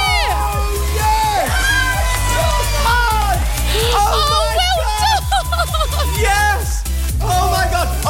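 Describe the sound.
A family erupts in loud, excited cheering and whooping, overlapping shouts and high yells sustained throughout, celebrating after a boarding card scan wins them £10,000.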